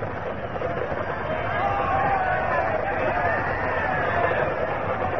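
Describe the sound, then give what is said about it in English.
A large, hostile English crowd on the approach to Oxford calling and shouting together, calling for Sir Walter; many overlapping voices merge into a steady, dense roar that holds an even loudness for the whole five seconds, with no single voice standing out. “An English crowd.”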